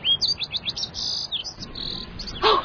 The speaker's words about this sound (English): It's a Santa Pygmaea! A pygmy nuthatch! They only live in one place! Carmel!